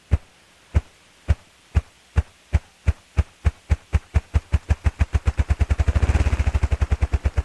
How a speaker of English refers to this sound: Listen for a moment to this remarkable drumming of a ruffed grouse.